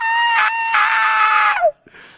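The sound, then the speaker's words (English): A voice imitates a child's tantrum, letting out two loud, sustained wailing screams with a brief break between them, the second trailing off into a falling squeal. “Mom could get so embarrassed, so overwhelmed, the kid's so loud, just give in.”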